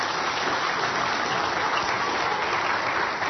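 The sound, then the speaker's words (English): An audience claps steadily for three volunteers in a dense, continuous wash of applause that holds at an even loudness for several seconds, with no voices rising above it. “All right, can I have a big round of applause for our three volunteers?”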